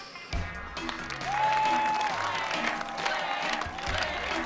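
A crowd of students at a school applauds steadily as the homecoming queen is announced, dense clapping filling the whole stretch, with scattered cheers and a whistle rising over it and a low musical hum underneath.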